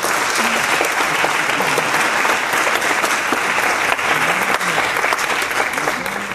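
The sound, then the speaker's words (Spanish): Sustained applause from an audience giving a round of applause to the Lord, a steady dense wash of clapping at an even loudness for several seconds, with a few faint voices mixed into the crowd noise. “¿Puedes darle un aplauso al Señor por esto?”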